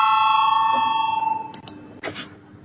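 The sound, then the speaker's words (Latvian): A parliament voting bell rings out with a bright, sustained tone that slowly fades, followed by a few short knocks and clatters as the ringing dies away; no voices. The bell is rung to call a vote on a deputy's proposed amendment to a budget law. “Lūdzu zvanu, balsosim par pirmo deputāta Mažvillo iesniegto priekšlikumu.”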